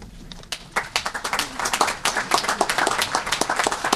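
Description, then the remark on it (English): A crowd at a deal-signing ceremony for a record one-day Chinese soybean purchase breaks into applause, scattered claps quickly swelling into a dense, steady patter of many hands that holds fairly loud throughout, with no talking. “Now, let's applause for this remarkable achievement.”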